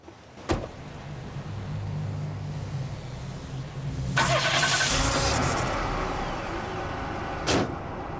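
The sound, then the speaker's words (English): A car bonnet clunks open near an idling engine as a man places both hands on the engine, followed by a few seconds of metallic rattling and handling, then a single solid slam as it shuts. “Opening the bonnet, Ted places both hands on the car's engine.”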